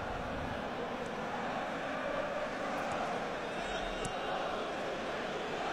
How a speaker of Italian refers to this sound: Si fanno sentire i tifosi del City, mi sentite? Forse urlare come on City.